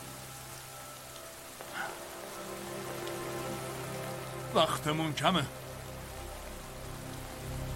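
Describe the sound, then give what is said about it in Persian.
Steady, heavy storm rain hisses throughout as a dense, even wash of noise, while a man speaks a brief line over it near the middle. “فقط باید قبل از پایان طوفان موفق بشیم.”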